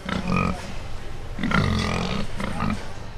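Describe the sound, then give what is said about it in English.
A pig being weighed on a scale at a livestock show grunts in three rough, throaty bursts, the middle one longest, with a constant low background rumble throughout. “And so behind me is a scale, and I'm weighing my pig.”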